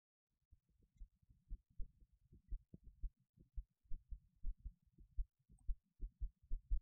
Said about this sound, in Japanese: ねえ、すごく鼓動が早いでしょ？すっごくドキドキしてるんだから。